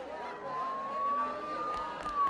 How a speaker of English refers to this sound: Oh, the police. Did something happen? Don't the sirens sound really close?